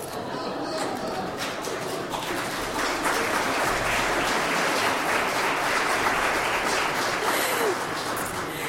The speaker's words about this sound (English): Thank you for clapping when he said the Sarah Palin of the ELCA. That's exciting.